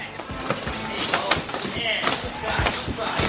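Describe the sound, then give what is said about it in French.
Busy boxing club training room in Curicó, in Chile's central valley south of Santiago, with frequent sharp thwacks and slaps of punches landing on bags or pads at an irregular pace, layered over constant room noise and a voice talking on top. “On est ici à Curicó, dans la vallée centrale du Chili, au sud de Santiago, dans la salle d'entraînement du Boxing and Weed.”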